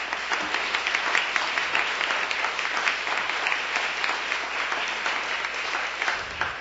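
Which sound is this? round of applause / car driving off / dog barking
round of applause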